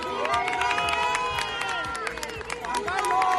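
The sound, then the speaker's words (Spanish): A crowd at a wedding at the church of San Francisco de Borja in Madrid claps and cheers for the emeritus King Juan Carlos, with many overlapping voices calling out and sharp clap bursts scattered throughout, sustained at an even, fairly loud level for the whole stretch. “Tanto a su llegada como a su salida del templo, don Juan Carlos ha sido recibido con estos aplausos.”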